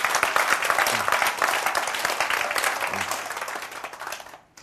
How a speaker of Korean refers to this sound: 박수!